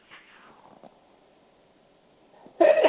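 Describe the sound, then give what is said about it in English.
After a few quiet seconds, one sudden, loud, sharp sneeze bursts out at the very end. “If you sneeze when you say it, it's true.”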